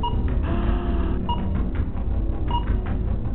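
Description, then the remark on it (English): A timer beeps three times, short mid-pitched electronic tones spaced about a second apart, over a steady low rumbling background with no voices. “Come on, I'm having fun with my timer.”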